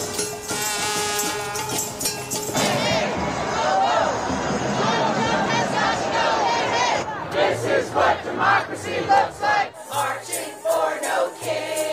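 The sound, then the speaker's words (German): A large crowd chants and shouts in unison at a street protest against Donald Trump in New York and Washington DC, loud rhythmic bursts of many voices rising and falling, with overlapping yells and cheering throughout. “Ihr hört's, das klingt nach Protesten und Demonstrationen und in New York und Washington DC und eigentlich übers ganze Land verteilt, wirklich in allen 50 US-Bundesstaaten,”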